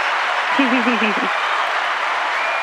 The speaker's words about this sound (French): Vous les avez entendus, les applaudissements ? J'ai entendu quelque chose, mais je savais pas que c'était des applaudissements.